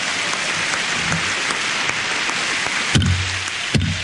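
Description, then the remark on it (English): A large crowd in the House chamber of Congress cheers and applauds, with Speaker Thomas P. O'Neill also applauding. The clapping is a dense, steady roar throughout, broken near the end by two heavy, resonant thumps a moment apart. “It's a great cheer up from the crowd. And Speaker O'Neill continues to applaud, letting the people in the chamber give full vent to their emotions.”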